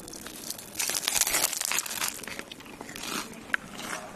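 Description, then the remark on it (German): Crisp crackling crunches from biting into crispy pork belly, a dense run of sharp crackles that swells for a second, then continues more softly with a few isolated snaps. “Knuspert sehr. Also wenn das kein knuspriges Brötchen ist, beziehungsweise knuspriger Schweinebauch, dann weiß ich auch nicht.”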